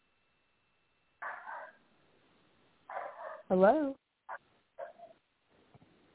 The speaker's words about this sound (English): Hello? No, I don't. I hear barking.